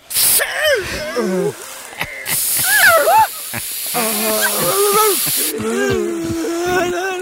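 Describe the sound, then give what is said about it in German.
Two long, steady bursts of hissing from an aerosol can of newly bought 'zombie spray', like mosquito spray but against zombies, the second lasting about three seconds, with animated voices and vocal noises over and between them. “So wie Mückenspray, aber gegen Zombies.”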